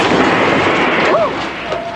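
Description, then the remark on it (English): A car crash in which someone's car is hit: a loud, sustained crash of crunching, smashing noise roars for about a second, then eases slightly, with a brief high whine rising and falling near the end. “Sounds like a crash. Somebody got creamed.”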